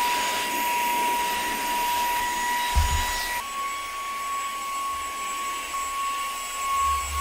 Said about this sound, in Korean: 그럼 산 이유는 사실이다. 키보드 청소를 샀어요, 이거는. 키보드 청소.